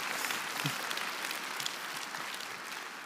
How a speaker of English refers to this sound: And you can give that a huge round of applause.